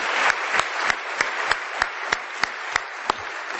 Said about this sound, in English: And let's give them a round of applause for the amazing work that they have done this week.